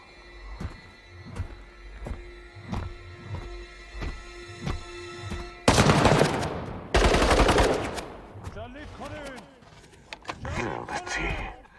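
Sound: gunfire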